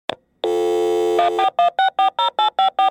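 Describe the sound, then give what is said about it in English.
A telephone sound effect: a short click and a steady electronic tone, then a quick run of loud, evenly spaced ringing pulses, clear with no voices. “Get the phone!”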